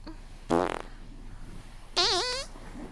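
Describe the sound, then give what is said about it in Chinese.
Two fairly loud farts with quiet pauses around them: a short rasping one first, then a longer buzzy one whose pitch wobbles up and down. “果然放屁之后肚子就轻松多了啊。”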